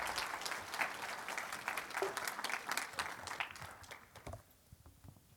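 A room full of people applauds with dense, steady hand claps that hold for several seconds, then thin out and fade to a few scattered claps and near quiet.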